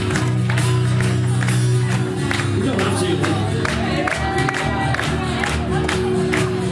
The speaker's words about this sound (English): I'm not going to start this song until everybody in the cabin is clapping your hands together.